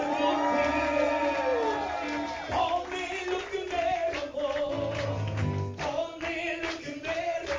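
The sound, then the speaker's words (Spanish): An audience shouts a loud, sustained victory cry, many voices yelling and whooping together in overlapping bursts with no pause across the whole stretch. “Dale un grito de victoria.”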